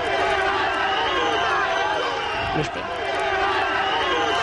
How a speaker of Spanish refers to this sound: Ha habido insultos, pitidos y abucheos en la puerta, pero no para doña Sofía, sino para el ministro de Industria, que la ha acompañado en esta visita. 300 mineros, la mayoría en paro y sin ingresos, han gritado a Soria de todo.